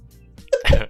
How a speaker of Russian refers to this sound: Собака кашляет.